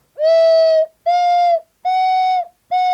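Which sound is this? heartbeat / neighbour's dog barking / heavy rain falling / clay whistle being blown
clay whistle being blown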